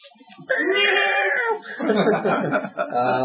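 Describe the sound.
A person imitates a cat with a loud, drawn-out whiny meow, then breaks into rough, breathy laughter-like vocal sounds that run to the end.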